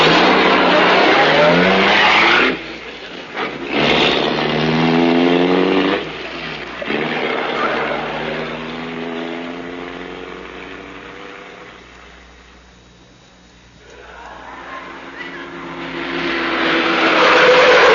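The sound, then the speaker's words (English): A racing car engine roars, revving through rising gear changes with a brief tire squeal, then fades briefly before surging loud again as it speeds away. “Now, quick, into this racing car this time.”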